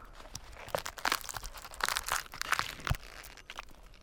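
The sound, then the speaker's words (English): Bark being carved off a tree that still has some of its needles, a chunk cut out to expose beetle life stages in the layer beneath the bark: a run of dry crunching, tearing and crackling scrapes, irregular bursts of brittle noise across about four seconds, moderately loud with no voices. “So we'll just carve a chunk out of the bark here.”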